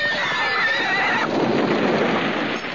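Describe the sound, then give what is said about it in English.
A horse lets out a loud whinny, its high quavering cry rising and falling for about a second before giving way to a noisy, rushing background like wind or rain. “Whatever she said, the poor horse didn't like it much.”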